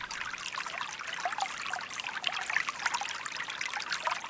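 Water trickles and dribbles steadily, a soft continuous babble of small splashes with bright, fizzy detail, at an even, moderate level throughout with no voices.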